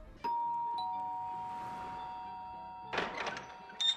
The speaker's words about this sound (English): Anyway, I'll ring the bell.